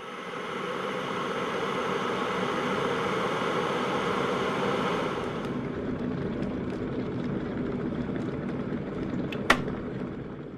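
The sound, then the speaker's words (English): A kettle boils with a steady, rushing roar and hiss; the bright hissing fades about halfway through, leaving a lower rumble, then a single sharp click sounds near the end. “So now we're going to use the sound effect of a boiling kettle to separate these two moments in the podcast.”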